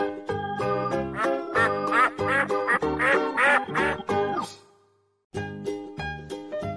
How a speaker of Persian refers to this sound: اردک نکتلایی کوک کوک میکنه، با منقارش انگاری برکه رو پاک میکنه، دنبال چی میگرده؟ شاید دنبال ماهی، یا شاید هم گرفته برکه رو اشتباهی. نون میریزم توی آب، اردک خوشحال میشه، نونو به جای ماهی اون میخوره همیشه.